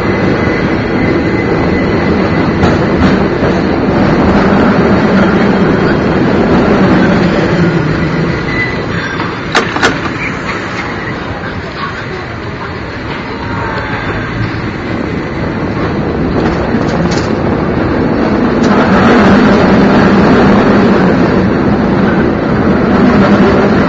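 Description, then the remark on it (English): A San Francisco cable car rumbles steadily along its tracks on Powell Street at Sacramento at about 8 miles an hour, loud, with continuous rattling and clanking, occasional metallic clicks, and wind buffeting the microphone throughout. “We're only going 8 miles an hour. That's the speed of the cable. Oh my gosh, there's another cable car coming right at us.”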